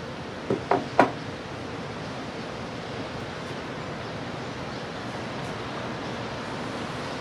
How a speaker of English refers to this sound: I'll let you enjoy the beautiful surf that we're experiencing here today.